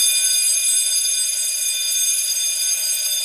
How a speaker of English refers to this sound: Nothing I love more than the sound of an old bell. Do you know what? So many schools have these modern bells now and they're rubbish. That's much better, isn't it? It is. It's a great bell. You can hear it everywhere, can't you?